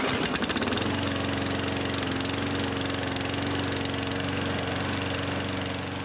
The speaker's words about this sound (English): Sound effect one. One of your next door neighbours mows the lawn.